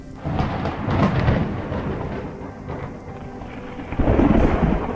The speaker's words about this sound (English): For some, the summer storms are a welcome reprieve from the heat. The walls of dust and lightning strikes a pre-show spectacle.